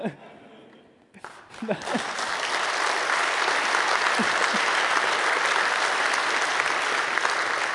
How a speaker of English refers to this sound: The applause is for Kabul, of course, not for me.